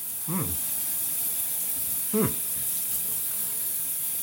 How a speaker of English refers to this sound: And now? What do you hear? It sounds like a shower.